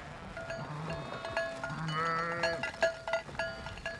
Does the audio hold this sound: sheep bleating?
yes